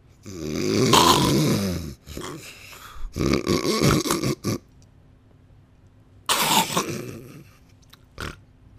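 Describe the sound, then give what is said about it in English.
Loud snoring from a person sleeping in bed: three long, rough rasping snores separated by pauses, with a few short snorts and gasping breaths in between, and no talking. “I hope you really do stop breathing.”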